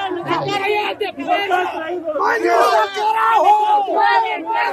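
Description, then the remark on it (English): A crowd of protesters in Vinto, Bolivia, screams and shouts angrily, demanding the mayor's resignation as her hair is cut and she sits drenched in red paint; many overlapping voices yell loudly and continuously, rising in bursts of chanting-like cries. “Arce sits drenched in red paint as someone cuts chunks of her hair and protesters scream demanding her resignation”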